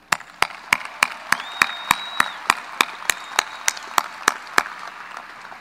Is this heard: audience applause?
yes